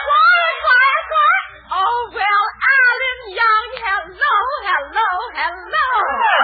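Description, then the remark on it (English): Several cats meow and yowl at once, a loud chorus of wavering, drawn-out cries that overlap and rise and fall without pause from start to finish. “There, those kitties of mine again. They're always up to something.”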